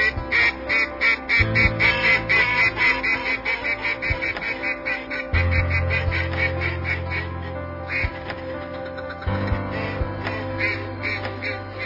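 Long-tailed duck calls: a busy, continuous chorus of nasal, yodeling cries in quick repeated bursts, fairly loud, over a steady low droning background. No one speaks.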